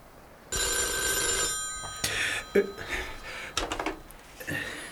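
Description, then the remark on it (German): A telephone bell rings once in a loud, sustained burst at the Felsenhaus, then stops; a handset rattles and clunks as it is picked up, followed by faint indistinct movement. “Quentin wollte gerade die Polizei anrufen, als das Telefon schon klingelte.”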